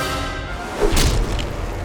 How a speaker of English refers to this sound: The Arimaspian leader plunged to the earth with frightening speed. His body slammed into the ground with a sickening thud.